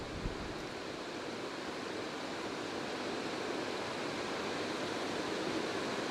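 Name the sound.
rain falling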